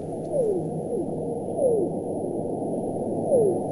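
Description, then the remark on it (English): Blue whale chirp calls: about four short, downward-sweeping chirps at uneven intervals, each sliding from a mid pitch to a lower one, set against a steady, dense low hiss of underwater noise. “Now, they make another noise, and that's little chirpy noises.”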